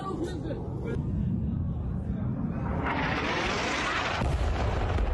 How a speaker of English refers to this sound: That, ladies and gentlemen, is what we call an explosion. Now, this happened to take place. This video right here allegedly is from that raid that I talked to you guys about a little bit earlier on where they went in and they schwacked a guy.